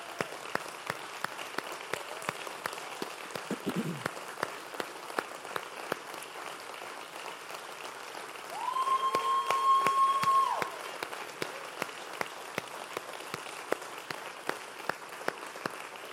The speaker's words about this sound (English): And I want to ask, if you have served or you are currently serving, would you please stand? And would you give them a round of applause?